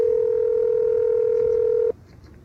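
A steady, unbroken telephone tone hums at a mid pitch for about two seconds as a number is dialed to call Mira, then cuts off abruptly, leaving faint background hiss.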